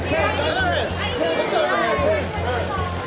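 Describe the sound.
A crowd of photographers at the red carpet of a 2004 Grammy Awards party in Los Angeles, shouting over one another to get Paris Hilton's attention as she arrives. A loud, constant tangle of raised voices, with a low pulsing hum underneath.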